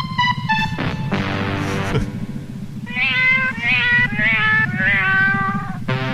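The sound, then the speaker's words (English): A cat meows the Meow Mix cat food jingle in a sing-song run of short, tuneful calls, one long drawn-out meow followed by quick rhythmic meows, loud over a steady low backing. “the cat is singing the Meow Mix jingle to the spaceship that's repeating it back”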